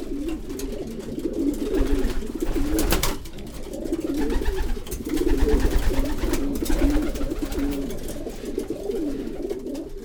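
A flock of racing pigeons coos steadily, many throaty, overlapping calls forming a continuous low burble, swelling and easing slightly over the ten seconds with no one speaking.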